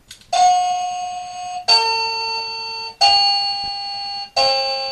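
A mechanical clock chime, the 'Mechanical' time-selection sound (option 1 of 11) of a talking clock in Talking Toolbox, sounds four bright, bell-like notes at an even pace, each struck sharply and ringing with a slow fade before the next, the pitch shifting slightly from note to note.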